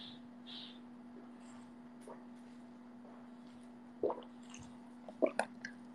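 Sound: sipping a drink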